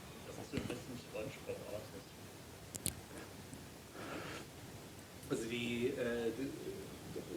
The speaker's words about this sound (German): Ja, man hört die Vögel, ne?